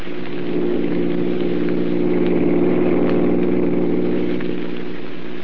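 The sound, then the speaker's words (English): A steady, continuous engine drone with a low harmonic hum, like a car motor running at a constant speed while driving in a city, unchanging throughout, with no voices. “Pass that car in front.”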